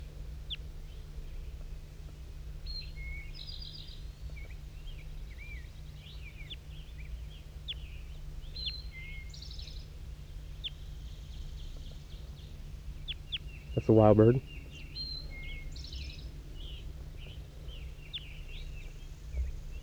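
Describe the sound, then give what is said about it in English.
A wild bird gives one loud, short, harsh call midway through, set against a steady background of faint, high twittering chirps and a low constant hum. “That was wild again. Wild bird.”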